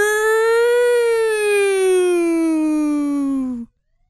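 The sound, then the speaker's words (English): A single loud, sustained wail from a voice mimicking a siren, rising slightly then sliding slowly downward for about three and a half seconds before cutting off abruptly. “that's ambulance. This says police siren.”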